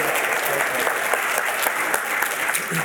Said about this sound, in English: So let's give our eighth graders one more big round of applause. Good job. Good job. Good job. Good job.